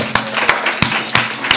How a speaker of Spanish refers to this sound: ¡Un aplauso!